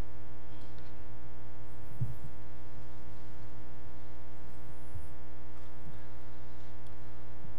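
A steady electrical hum drones throughout, the low, even whir of an air conditioner running on fan mode rather than auto during a church service, with a couple of soft low thumps underneath and no one speaking.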